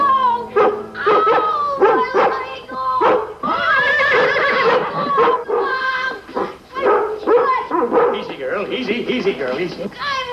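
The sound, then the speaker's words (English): A dog barks and yips excitedly in quick, repeated bursts, loud, mixed with a horse's whinnying and people talking throughout. “The dog. The dog bit you.”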